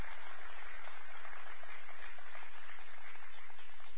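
A crowd claps their hands for tithes and offerings, a steady, dense, continuous patter of many hands at once, fairly loud and even throughout with no voices standing out.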